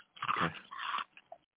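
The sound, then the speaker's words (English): A crunchy spicy limon-flavored snack is bitten and chewed in a taste test, with two loud, crackling crunches in quick succession followed by a few softer chewing sounds, and no talking. “The crunch is good.”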